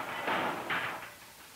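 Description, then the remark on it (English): Two heavy impacts from a board drop hammer with a 2,500-pound ram, about half a second apart, each a broad, noisy thud that fades quickly into a steady background hiss. “This hammer is rated at 2,500 pounds, that being the weight of the ram.”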